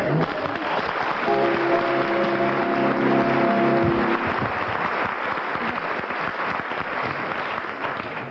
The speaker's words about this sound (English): We'll judge this one on the volume of applause, having heard the volume of that applause.